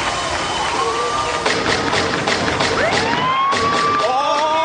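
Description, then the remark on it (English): A police siren wails loudly, its pitch sweeping up and down in overlapping tones, against a dense, noisy background broken by sharp bursts of sound. “Oh, by the way, I have no idea what guns and police sirens have to do with not hugging people.”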